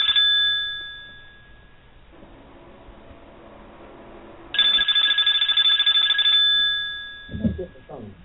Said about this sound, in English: I hear the phone ringing. Let's hear what this caller has on his or her mind.